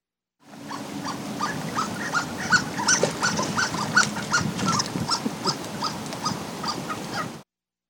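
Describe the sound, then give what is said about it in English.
A duck gives a rapid, continuous series of thin, high squeaks, mouse-like and toy-like, repeating steadily for several seconds with a low rumbling background underneath. “Well, people often describe it as mouse-like. Mouse-like squeaking. And that's a duck.”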